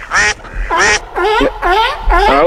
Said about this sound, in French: Ça c'est quoi ces canards là? Ah bah, c'est à toi de me le dire. C'est ta femme qui fait des bruits de canard là?